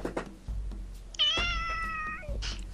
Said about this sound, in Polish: O, czy mógłby miałknąć, bo to taki miły przerywnik jest.